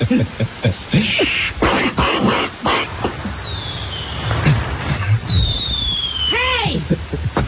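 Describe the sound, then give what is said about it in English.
Sharp bangs and crackles pop in a quick irregular burst, then high whistling tones slide downward and squeal, like fireworks going off against a busy background. “That and the same time with you get the same results from fireworks. Remember fireworks?”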